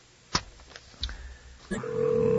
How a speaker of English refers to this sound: Hey, it's ringing.